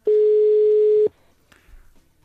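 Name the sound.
telephone ringing tone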